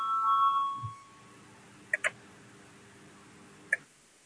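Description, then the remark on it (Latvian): A tonal electronic bell fades out in the first second, then three short, bright chime-like beeps sound, two close together and one a bit later: a parliament voting bell, rung to call a vote on a Cabinet of Ministers proposal. “Lūdzu zvanu, balsosim par 138. ministru kabineta priekšlikumu.”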